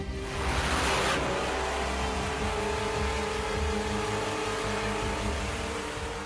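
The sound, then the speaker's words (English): The engine of an Iranian Shahed 136 drone drones steadily, a loud, continuous buzzing hum like a lawnmower, holding an even pitch throughout, with a brief rush of hiss at the very start. “Shahed's engine makes a unique sound, so it is known as a flying lawnmower.”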